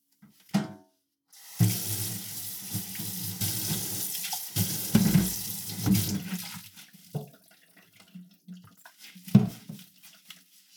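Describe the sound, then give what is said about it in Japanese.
A kitchen tap runs steadily for several seconds while dishes are washed beneath it after cooking, with soft clinks and splashes, then the water stops and a few quiet knocks and a final clatter follow. “それじゃあ今から食器洗うからね。”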